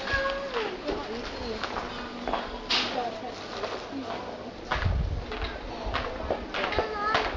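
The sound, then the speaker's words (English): A person imitates a cat, giving several drawn-out meows in a row, with rustling and household noise in the background. “We haven't got a meow, have we? Meow, meow, meow, meow.”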